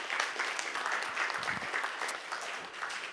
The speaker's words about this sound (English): Here, brother, we're going to give you a gift. This is one of our books, and this is yours. Congratulations. Give him an applause.